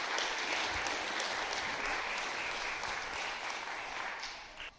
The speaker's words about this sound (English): so shall we give them a clap? Thank you very much.